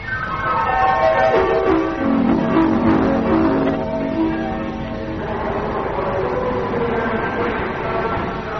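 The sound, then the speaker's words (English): A train idles at a station before pulling out, with a steady mechanical rumble and droning tones that slide down in pitch, then climb again over several seconds. No one speaks. “Well, this is your first train journey alone.”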